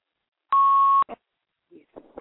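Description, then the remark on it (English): A single loud electronic beep from a phone, a steady half-second tone, followed by a few faint bursts of speech in the background. “I don't know where that beeping coming from.”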